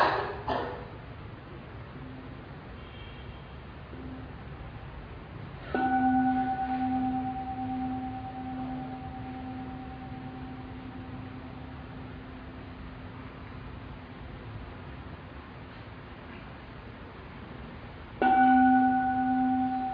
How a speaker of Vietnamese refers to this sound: Chúng ta đưa tâm ý trở về với thân, cảm nhận toàn thân một cách sâu sắc, và chúng ta cũng có thể kết hợp thay đổi hơi thở trong quá trình nghe tiếng chuông, hoặc đơn giản là chúng ta chỉ nghe tiếng chuông với sự thả lỏng thư giãn.